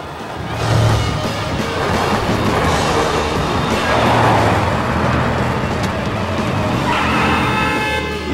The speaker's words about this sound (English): Exactly as he arrives at the lights, they change to green, and he races through, causing the cars to screech to a halt at the four-way stop.